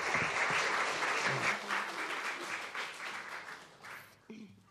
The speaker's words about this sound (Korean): 우리 큰 박수로 한번 격려해 주시기 바랍니다.